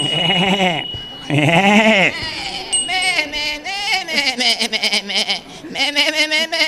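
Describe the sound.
A person imitates a goat, starting with two long, quavering bleats, then a fast stream of bleating, chattering sounds. The voice is loud.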